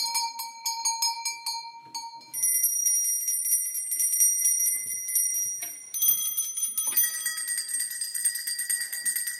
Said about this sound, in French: Monsieur, monsieur, vous qui habitez le clocher, faites quelque chose pour nous. Ding, ding, ding, ding. Et depuis ce jour, les cloches sonnent.